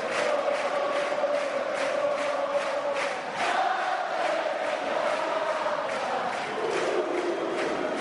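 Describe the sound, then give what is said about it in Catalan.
A large crowd roars the final collective battle cry of the Castellers de Vilafranca human-tower team, many voices chanting together loudly and continuously for several seconds amid dense cheering, with a brief dip partway through. “Aquest crit de guerra final, aquest dels castellers de Vilafranca, una lona, Esteve, tu deies, han desplegat la lona.”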